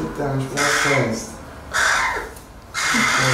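A talkative young crow chick, found hiding under a car in Liepāja, caws three times, loud, each call a harsh, raspy burst with short pauses between them.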